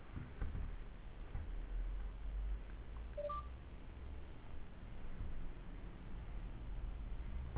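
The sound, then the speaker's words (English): A brief telephone keypad dialing tone sounds once around the middle, short and fairly faint, over a steady hiss of line noise. No one speaks. “I want to go with your phone. We have your 3-1 and your... Oh, 301. What's it, 649? 496141.”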